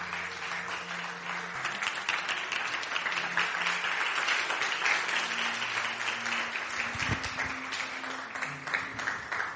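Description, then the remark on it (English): An audience claps in sustained, dense applause for Apostle Jesus Serada, a steady wash of many hands at even loudness, with faint low tones humming underneath throughout. “Give our Apostle Jesus Serada another big hand clap.”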